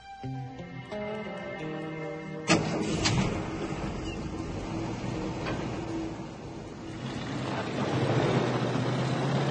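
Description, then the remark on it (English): A few seconds of soft tonal music give way to a truck engine abruptly roaring to life, then a steady, rough rumble as a man drives off in his truck in the daytime, growing slightly louder toward the end. “Billy sits in his truck staring blankly into the distance. He drives off.”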